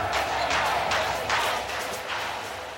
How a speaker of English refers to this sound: crowds occasionally chanted Nixon's name